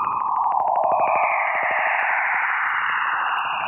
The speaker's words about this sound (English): These radio waves were detected by the Juno spacecraft in August. And while the screeching sounds may shock the ears, what NASA is discovering about Jupiter is earth-shattering.